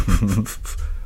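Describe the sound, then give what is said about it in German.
A muffled throat sound: a short voiced rumble with a few quick breathy pulses, like someone holding back a cough. It fades into quiet within about a second. “fast gehustet.”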